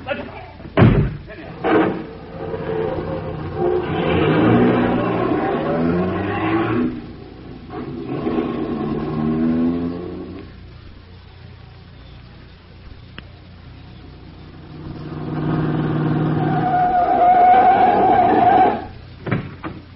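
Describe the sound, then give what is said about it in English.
A car door slams hard near the start, then an engine roars and revs in long surges as the car pulls away, with voices faintly underneath. “All right, in the car, you two. Hurry it up. Car right in there.”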